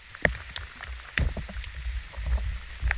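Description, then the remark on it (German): Muffled underground soil sounds picked up by a wire stuck into the earth beside a tree in a primeval forest: a low, steady watery rumble like flowing water, with scattered soft clicks and crackles suggesting something nibbling. No voices. “Irgendwas hört sich so ein bisschen an, als würde da so was rumknabbern. Ich finde, man hört auch Wasser fließen.”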